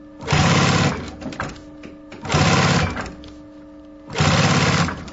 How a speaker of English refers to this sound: This is a sewing machine, a very heavy one. We are in the atelier of a belt maker, and he's doing belts, very special belts, very typical belts for this area,